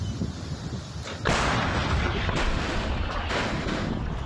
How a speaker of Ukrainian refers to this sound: Готували. Постріл.